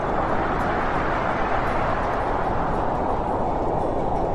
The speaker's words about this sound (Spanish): Oír ese sonido del mar y también este, el del viento.